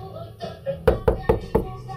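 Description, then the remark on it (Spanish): Four firm knocks on a door in quick, slightly uneven succession, loud, over a low murmur of music. “ábreme la puerta, ¿me oyes?”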